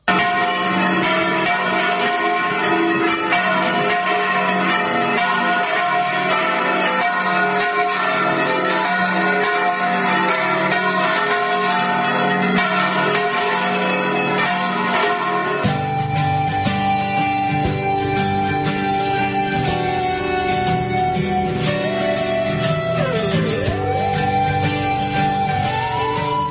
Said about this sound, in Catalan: Comencen molt fort, amb la tradicional rebuda al Saló de Sessions de l'Ajuntament per fer la missa de les Santes i donar la benvinguda un any més a les festes de Mataró, seguit d'una gran repicada de campanes que sonen així.